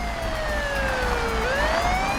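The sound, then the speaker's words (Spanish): A police patrol car siren, sent to the scene of a shooting, wails steadily, its pitch sliding slowly down and then sweeping back up, loud, over a low engine rumble with no voices. “Se despacharon patrullas de policía al lugar de los hechos.”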